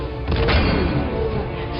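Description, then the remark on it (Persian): A loud, booming sci-fi plasma cannon blast bursts out near the start, followed by a dense, roaring rumble that stays strong through the rest of the moment. “توپ پلاسمایی. توپ پلاسمایی عالی کار میکنه.”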